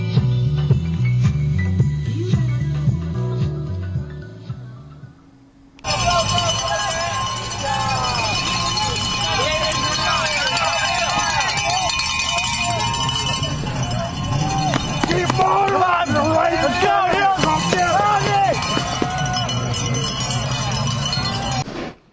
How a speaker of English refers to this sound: lots of bell noises, bells and ringing, whistles blowing at the races here at Bike Sport Radio.